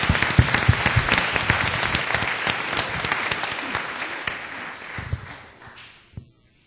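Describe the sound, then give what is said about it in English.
A crowd at a church children's ministry event breaks into steady, dense applause for the Sunday school teachers, many hands clapping at once, holding strong for several seconds before thinning out and fading to silence. “You get double the claps on that one.”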